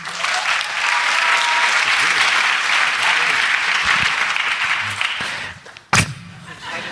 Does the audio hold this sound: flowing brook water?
no